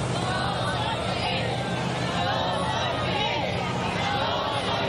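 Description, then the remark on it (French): A large crowd of Cubans chants "Yo soy Fidel" during Fidel Castro's funeral procession in eastern Cuba, a dense, loud wall of many voices that holds steady without pause, with layered shouting and babble blending into a continuous roar. “« Yo soy Fidel » « Je suis fidèle », c'est ce qu'il scandait aujourd'hui.”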